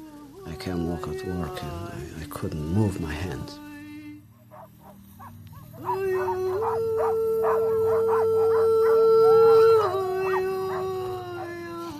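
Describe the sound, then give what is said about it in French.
Several sled dogs howl together in long, sustained, wavering tones, a chorus that pauses briefly and then rises again, loud. “Il se procure des chiens et un traîneau, de quoi l'éloigner davantage du fracas du monde.”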